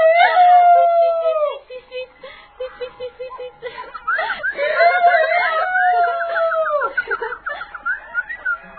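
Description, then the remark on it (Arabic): A rooster crows twice in long, drawn-out, high-pitched calls that rise and then drop at the end, loud and strident, with brief squawks and chatter between the two crows. “يا لك من ذيك الرائع، فعلا إن صوتك رائع أيها الدين.”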